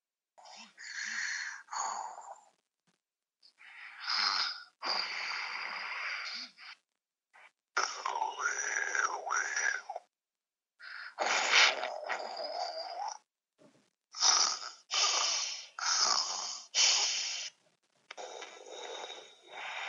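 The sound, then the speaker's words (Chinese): Several children take turns imitating a dad's snoring, a series of raspy, breathy snorts in short bursts separated by brief pauses, fairly loud, with no talking between them. “你能不能学学爸爸打呼噜的声音呀？”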